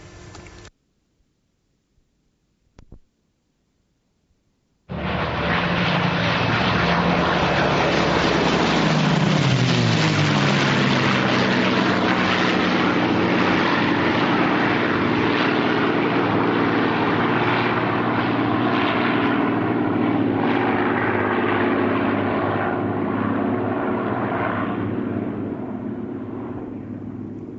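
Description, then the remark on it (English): A Mosquito and two Spitfire propeller aircraft fly past in formation after a brief quiet start, a loud sustained engine drone with a sweeping pitch change as they pass, then slowly fading. “Well, you're going to get it anyway, because that was a Mosquito and two Spitfires in formation flying by.”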